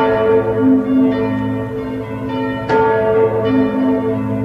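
The bells of the Major Cathedral in Marseille, France ring out at 18:50 in honour of Notre-Dame in a continuous, overlapping peal, their deep resonant tones sustained and loud, with one sharp clang standing out partway through; no voices are heard.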